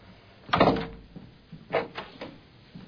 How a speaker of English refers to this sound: Bolt your door.